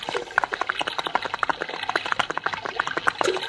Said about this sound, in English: water's most taking that bridge out, Julian. It seems if Humbug City could build a better bridge than this... We can get across.